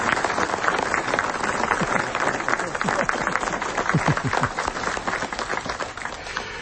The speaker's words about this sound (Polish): Ale widzę tu pewien brak, skoro wszyscy dostali brawa, no to oczywiście jeszcze byliście onieśmieleni. Brawa dla księdza biskupa, proszę.